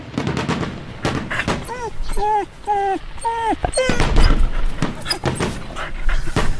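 Loud fireworks explode in a rapid, uneven series of sharp bangs, pausing briefly while a dog lets out several high, whining yelps before the blasts start up again.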